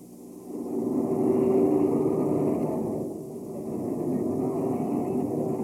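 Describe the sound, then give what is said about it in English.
A continuous rumbling roar of whistles blowing in the street, picked up by a microphone held out while paper is being thrown down, with a steady low-pitched tone running through a dense wash of noise that swells and dips slightly but never stops. “At any rate, there's a rumble of whistles as we can hear them here, and still the paper comes down.”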